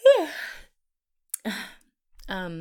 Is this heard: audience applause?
no